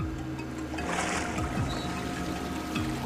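Water pours and trickles steadily off a submerged car being pulled by cables from a body of water, splashing and dribbling, with a low mechanical hum and faint creaks underneath.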